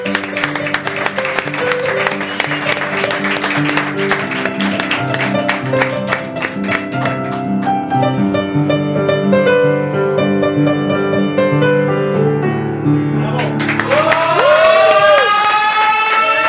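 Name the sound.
loud applause and cheering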